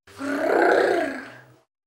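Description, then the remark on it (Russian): A single deep, rough wolf growl swells up and fades away over about a second and a half, loud, with no talking around it. “Волк подбежал к соломенному домику и зарычал.”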